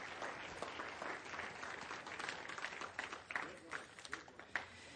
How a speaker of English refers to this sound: Come on, everybody stand up this morning. Give the Lord a good clap offering this morning, would you?